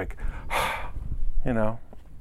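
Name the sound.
voice imitating heavy breathing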